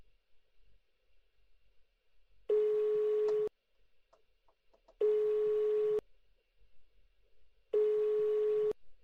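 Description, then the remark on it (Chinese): A phone's ringback tone buzzes three times while a call is being placed, each steady, mid-pitched burst lasting about a second, separated by short quiet gaps, clear as if heard through the handset. “给他打个电话。”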